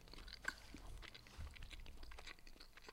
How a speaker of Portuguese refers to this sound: Opa, para lá de mastigar, que nojo.